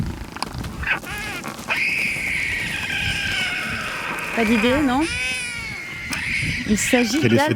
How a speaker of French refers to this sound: Il s'agit d'albatros hurleurs ou grands albatros qui ne crient ou ne hurlent pas mais piaulent, on dit comme ça. Seigneurs des océans avec leur envergure qui peut aller jusqu'à 3,50 m et un poids de 7 kg.